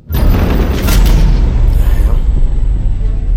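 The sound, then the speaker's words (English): A loud, deep boom of thunder rolls on steadily for a few seconds, a heavy low rumble topped with a crackling, hissing edge that barely fades. “How can a simple thunderstorm knock out the main system?”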